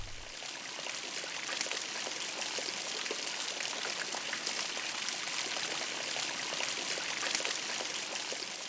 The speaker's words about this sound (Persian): صدای باران بود.